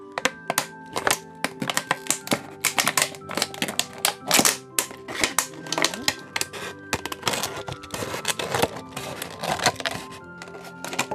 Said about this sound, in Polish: Dobrze, pozbyłam się etykiety i muszę przekroić butelkę, tak? Tak, na dwie połowy. Nożyczkami czy nożyczkami? Nożyczkami. O, uwaga, będzie głośno.